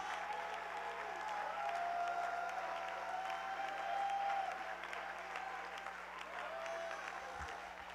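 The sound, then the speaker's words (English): A crowd claps hands and shouts unto God in dense, steady applause, with voices shouting and cheering mixed in throughout, fairly loud and sustained for the whole stretch. “And if you believe that, and if you want the Holy Ghost to hit this place with great power and authority, would you clap your hands and shout unto God with a great shout?”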